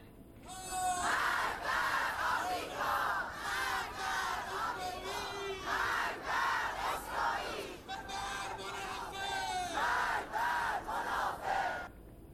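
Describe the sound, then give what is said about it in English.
A large crowd of Iranians chants in the street, denouncing recent riots, many voices shouting rhythmic slogans in loud, repeated bursts that rise and fall steadily, with a continuous murmur of the crowd underneath. “Our top story, Iranians have taken to the streets across the country denouncing the recent riots in a number of cities.”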